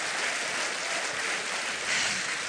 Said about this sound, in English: Listen how angry that crowd is.